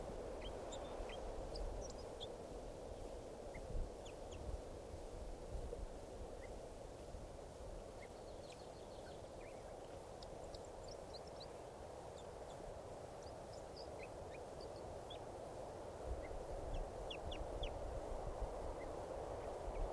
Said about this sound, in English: The wild birds who have come in, look like about two birds, are in song. So, and one of the birds is getting some calls here.